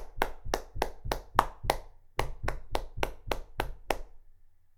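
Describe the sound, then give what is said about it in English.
Two quick runs of steady, evenly spaced hand claps, about a dozen in all, with dull low thumps of stamping feet mixed in. Fairly loud, with no talking. “For example, clapping hands and stamping feet.”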